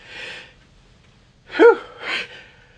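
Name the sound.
sneeze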